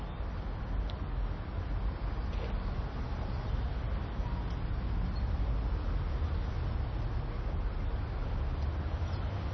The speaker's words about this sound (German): Man hört auch von rechts irgendwelche Autos fahren und Verkehrslärm.